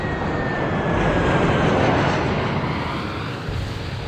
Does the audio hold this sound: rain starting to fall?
no